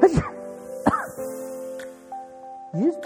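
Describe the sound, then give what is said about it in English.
A sneeze: a breathy voiced build-up followed by a sharp burst, with another short vocal burst afterward. A faint steady humming tone runs underneath, and no speech is heard. “you just pre-bless my sneeze?”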